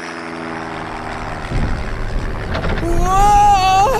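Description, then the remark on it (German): A steady, low airplane engine drone hums in flight, swelling into a rougher, louder roar midway, with a high whining tone rising over it near the end; the plane is wobbling and rocking back and forth. “Das Flugzeug wackelt ja wie ein Kuhschwanz”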